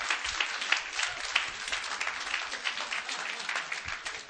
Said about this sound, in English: Can you say amen? Come on, clap your hands in it.